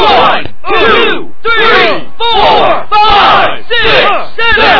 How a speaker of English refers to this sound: The dazed Magnum Randall is unloading with punches and punches, and listen to the crowd chant.